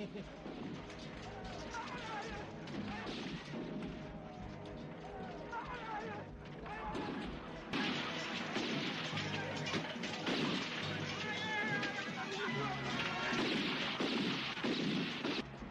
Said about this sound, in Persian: اونا تسلیم شدن، دیگه شلیک نکنه.